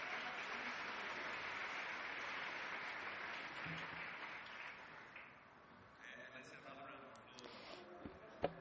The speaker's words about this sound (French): Et maintenant, je voudrais à nouveau vous demander d'applaudir ce groupe de danse que nous venons de voir.